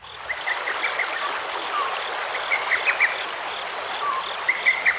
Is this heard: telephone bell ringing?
no